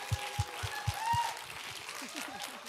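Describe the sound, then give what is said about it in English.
A crowd in Hong Kong applauds the Hong Kong team and 24/7, with clapping layered over steady low thumps and a few faint whistles or cheers. The sound holds at a moderate level throughout. “Can we just give another round of applause for the Hong Kong team and 24/7?”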